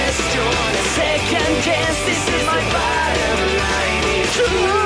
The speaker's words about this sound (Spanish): Chicas gritonas, boletos para ….